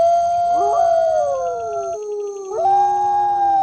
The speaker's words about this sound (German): Nur bis spät in die Nacht hört man die Jubelschreie der Wölfe bis weit in den Dschungel hinein.